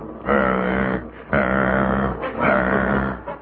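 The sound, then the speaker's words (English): A voice imitates a saw cutting through wood: three loud, rasping, throaty strokes in a steady back-and-forth rhythm, each lasting under a second, with short pauses between them. “It was a different one this time, more like a saw going through wood, but the rhythm was the same.”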